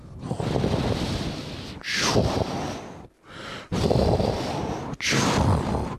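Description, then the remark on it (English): Loud, rough snoring by a woman in a chugging, train-like rhythm, recorded on a mobile phone: long raspy breaths alternating with sharp hissing whooshes, with a brief pause midway and no talking. “She does the old train snoring.”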